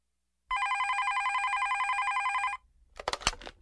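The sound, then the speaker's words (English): A telephone rings loudly and steadily for about two seconds, a rapid trilling electronic bell with a fast regular pulse, followed by a brief clatter as the receiver is picked up. “Cindy's father is taking phone messages for her.”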